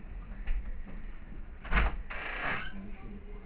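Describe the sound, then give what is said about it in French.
A sliding door opens as someone comes in through it: a brief knock or clack, then a smooth rushing slide lasting about half a second, over a low steady background hum. “Donc, toi, tu rentres comme ça. Par la porte.”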